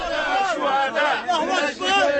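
A group of men being trained to use heavy machine guns, including a 61-year-old former soldier, chanting and cheering together, their loud voices rising and falling in rhythmic surges with brief dips between shouts, continuous throughout.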